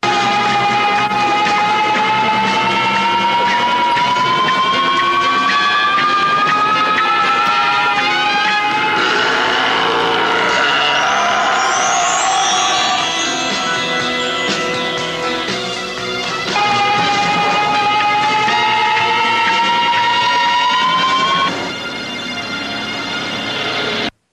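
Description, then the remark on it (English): A loud, sustained growling creature sound effect from TV, the Bionic Man "Bigfoot swings into action" effect, harsh and rough, with wavering, rising howl-like pitch sweeps running continuously for about twenty seconds with no talking. “That wasn't all the growling, but so that yeah, that should be noted.”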